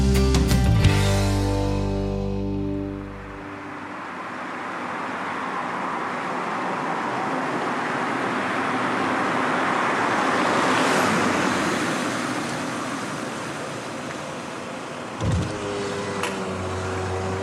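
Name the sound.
car driving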